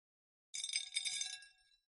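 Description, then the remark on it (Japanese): A quick cascade of small, colorful konpeito candies poured onto a plate, a dense run of bright tinkling clicks that swells and then thins out over about a second. “こうしてお皿に開けてみると、色とりどりで可愛らしいですね。”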